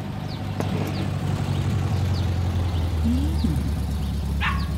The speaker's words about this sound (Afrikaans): Oh, wat so rommel hoop van die kombi trek nou daarby in. Lyk soos 'n ding uit die hippie era.